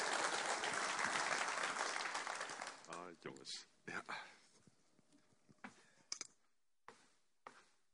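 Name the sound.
welcoming applause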